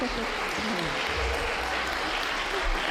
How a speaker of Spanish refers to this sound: Vale, bueno, un aplauso, ¿no? Qué bueno. Fenomenal.